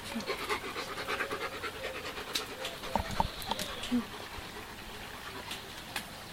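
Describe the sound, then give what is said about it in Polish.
A female German shepherd dog named Aki pants steadily in quick, breathy rhythmic bursts, with a few brief sharper sounds scattered through and no speech over it. “Aki, to jest owczarek. Niemiecki.”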